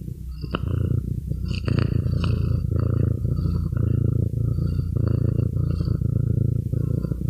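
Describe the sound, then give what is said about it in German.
A domestic cat purrs steadily while climbing on a person, a continuous low rumbling vibration that runs the whole time, with a few faint brief rustles or squeaks on top. No one speaks. “falls ihr jetzt irgendwie Schnurren und Miauen im Hintergrund hört, das liegt daran, dass meine Katze die ganze Zeit auf mir herumklettert”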